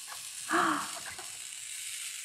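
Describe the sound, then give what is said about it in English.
Dry static crackle from a balloon being rubbed on hair, a continuous fizzing hiss like sizzling, with a brief louder squeaky rub near the start, then steady faint crackling to the end. No one speaks. “I love that sound. All the static electricity comes up and sticks to the bee.”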